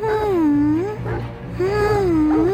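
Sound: baby crying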